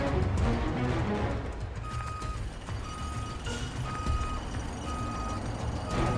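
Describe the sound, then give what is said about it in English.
A Lexus's reversing alarm beeps steadily at an even pace as it reverses out of a parking space, several clear tones sounding over a low engine rumble and broad background noise in an echoing car park. “The MTA officer keeps a close watch as the Lexus reverses out of the parking space and then pulls away.”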